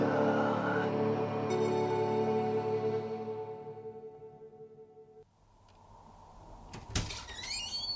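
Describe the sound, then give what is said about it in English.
A heavy fire door swings with a long, droning creak that fades, then shuts with a sharp, loud clunk of the latch, followed by brief squeaky scrapes. No voices. “Fire door.”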